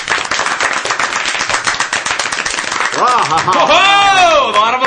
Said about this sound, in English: A lot of applause around the table today.